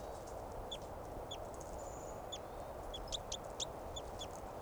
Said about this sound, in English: Calling bird there is 387.